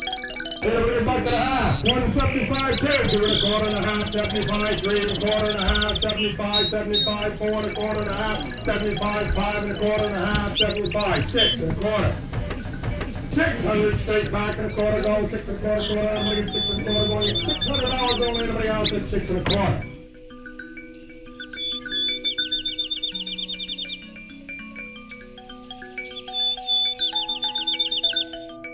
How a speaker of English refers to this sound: Song sparrow.